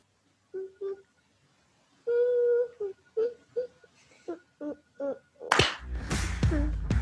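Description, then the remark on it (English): A toddler's high voice sings short, wavering notes in a series of little bursts, followed by a loud burst of rustling and clattering at the end. “I like the I like the singing in the background.”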